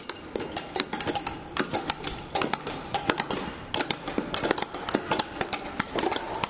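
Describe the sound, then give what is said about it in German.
Rapid, irregular metallic knocking from several hammers striking concrete as workers demolish concrete ramps in Shanghai, sharp percussive hits overlapping in dense clusters over a low engine-like rumble, with no voices. “Und dann wären da noch die Klopfkaskaden der Betonrampenabbauer.”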